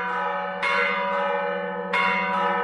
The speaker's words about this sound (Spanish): Estos mensajes codificados y reconocidos por las diferentes localidades que estructuraban la vida social están desapareciendo. Te recuerdo que el toque de campanas se declaró Patrimonio Mundial por la UNESCO en noviembre del pasado año.